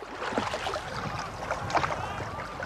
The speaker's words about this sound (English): That afternoon, we went out on a canoe with a couple of rowers and recorded stereo samples of the different type of effects that would be somewhat typical of an event.